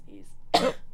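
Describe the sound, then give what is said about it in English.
A single sharp cough into the microphone, given instead of a sneeze, loud and brief, preceded by a faint breathy sound and otherwise surrounded by quiet. “Don't sneeze in the mic. Just cough instead.”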